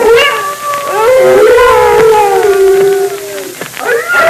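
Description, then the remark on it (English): Several timber wolves howl together in a loud, continuous chorus, their long wavering cries gliding up and down and overlapping one another, with no talking. “Those wolves have smelled us and they're gathering.”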